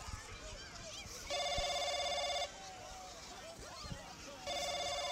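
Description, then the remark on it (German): A telephone in a phone booth rings in two long, loud electronic trilling bursts, with a pause between them while background voices and rustling continue underneath. “Das Telefon klingelt ja.”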